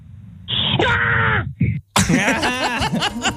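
A recorded woman's scream played from a website, two shrill bursts, a shorter strained cry followed by a longer, piercing wail with a brief gap between them, harsh.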